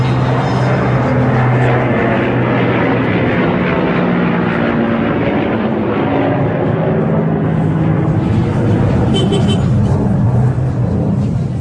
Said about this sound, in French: L'avion qui passe là, et la circulation, c'est de la pagaille. Donc, c'est le grand bazar ici. Le grand bazar de Kaboul, c'est l'avenue qui va de la rivière de Kaboul jusqu'au stade.